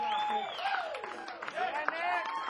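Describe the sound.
An audience claps and cheers, with steady dense clapping under rising and falling whoops and voices from the crowd, fairly loud throughout.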